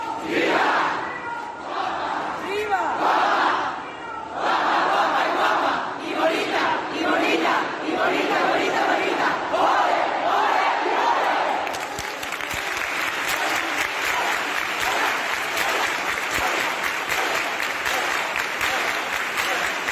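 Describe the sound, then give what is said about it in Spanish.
A large crowd of pilgrims with the Hermandad de Huelva at the Santuario del Rocío cheers and shouts, then breaks into sustained, dense applause that continues steadily to the end, loud with many voices mixed in. “nos vamos a ir hasta el Santuario del Rocío, ¿no? Con la Hermandad de Huelva, en ese momento en el que no pudo llegar la Virgen y fue el sin pecado a postrarse ante ella.”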